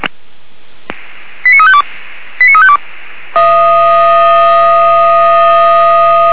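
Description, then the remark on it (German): German fire brigade radio alert tones over a crackly, band-limited channel: two quick stepped sequences of beeping tones, then a loud, steady, sustained alarm tone that carries on to the end. “Alarmierung.”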